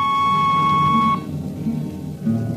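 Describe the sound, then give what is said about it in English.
A danger peeper on a Hawk-class spaceship, used for damping by hand, ticks off slow, steady, soft beeps, spaced well apart, over a constant low machine hum. A thin high tone rings for the first second and then cuts out. “Jetman slept with one ear tuned to that, and as long as the peeper ticked off slow and steady, we knew the ship was safe.”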